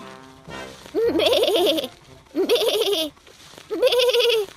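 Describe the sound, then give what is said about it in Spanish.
A small sheep bleats three times in quick succession, each call loud and quavering, with short pauses between them and no talking. “Quirico sigue andando y se encuentra con una oveja pequeña.”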